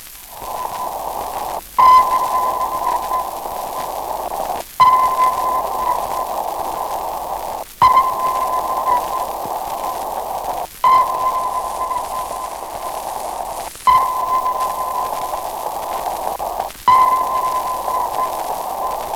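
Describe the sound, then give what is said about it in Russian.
Sonar pings repeat roughly every three seconds over a constant hissing, static-like background, each return followed by a fainter echo, a double echo coming from a ship's stern. No one speaks. “Слушайте двойное эхо, идущее от кормы.”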